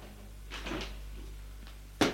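A door opens: a soft, breathy creak and rustle, then a pause, ending in one sharp, loud latch click, with a steady low hum underneath throughout.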